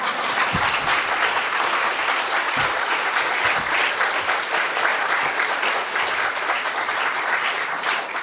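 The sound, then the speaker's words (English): Applause from an audience at the end of a speaker's formal remarks fills the whole stretch, a dense, steady wash of many hands clapping at an even loudness, with no voices standing out above it. “There was a smattering of applause. I want to encourage that.”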